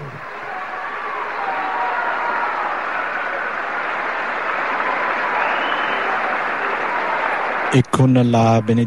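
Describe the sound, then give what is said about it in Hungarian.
A large crowd of pilgrims applauds in the Paul VI Hall, thanking Pope Francis for his words and blessing, a dense, steady wash of clapping that holds for about eight seconds before a man's voice begins speaking as it cuts off. “Ezzel a tapssal köszönték meg a mai napon a zarándokok a 6. Pál teremben Ferenc pápának a szavait és az áldását”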